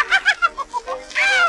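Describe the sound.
A voice imitates a parrot, letting out a quick run of short, chirpy squawks followed by one longer, drawn-out screech, fairly loud on a thin, old-sounding recording made for the Lambert Company of Chicago.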